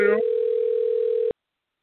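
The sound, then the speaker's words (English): A single steady electronic phone ringing tone, like an outgoing call waiting to connect, sounds clearly for just over a second after a brief blip, then cuts off abruptly into silence. “While I'm waiting on him to figure out if he can answer this phone”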